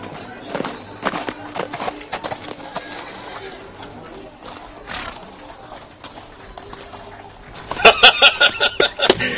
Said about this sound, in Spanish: Los vio venir a sus caballos, galopando muy tranquilamente.